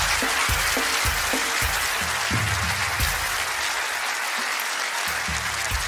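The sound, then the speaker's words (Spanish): A crowd applauds steadily for about six seconds, a dense wash of many hands clapping at an even, loud level with no voices rising above it. “Un aplauso para mi amigo, por favor.”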